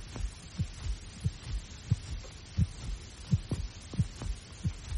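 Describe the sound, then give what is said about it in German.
A steady heartbeat thumps at an even, unhurried pace, each beat a soft, muffled low thud, with a faint hum underneath and no voices. “Mein Herzschlag ruhte sich aus.”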